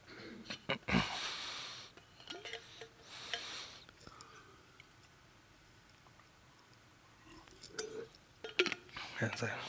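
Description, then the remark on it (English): Someone drinks water from a glass and splashes themselves: two loud bursts of splashing water, small clinks and ticks, a quiet pause, then more sipping and splashing noises toward the end. No words are spoken. “As I splash myself again, I need to get like a straw or something.”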